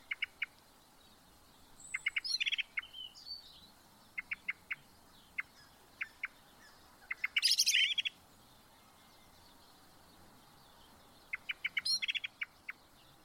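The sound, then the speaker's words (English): Eurasian blackbird song: clusters of short, bright repeated notes broken by three louder, warbling phrases that end in squeaky high twitters, with quiet gaps between and no talking. “So that's the Eurasian blackbird.”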